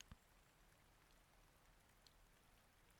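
nature, light rain pattering

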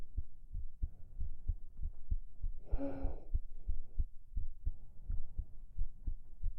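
human body sound, heartbeat thumping

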